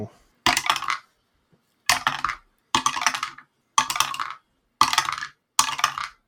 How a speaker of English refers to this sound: Now allow me to roll a bunch of dice now.